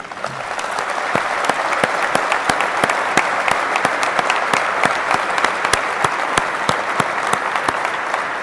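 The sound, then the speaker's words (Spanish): A crowd claps steadily for several seconds, a dense wash of overlapping hand claps with sharp individual slaps standing out, holding an even loudness throughout with no voices on top, applauding the workers behind a new wind turbine assembly project at FADEA with Nordex Group. “Así que lo primero es pedir un aplauso enorme para los que hicieron esto posible.”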